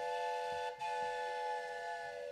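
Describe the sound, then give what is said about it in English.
A train's long, steady whistle, pretty close, sounds a rich, multi-toned chord, with a momentary break near the start before holding on at an even, fairly loud level. No one speaks. “Hey, I hear a train.”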